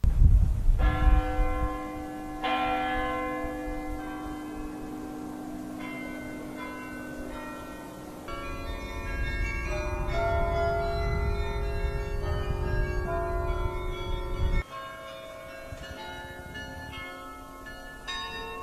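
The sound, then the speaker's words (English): Church bells from three churches in Amsterdam ring out in overlapping peals, several bells sounding together with long, resonant decays and fresh strikes every few seconds, steady and fairly loud with no voices; they ring every 30 minutes. “Here, I have three churches ringing their bells every 30 minutes.”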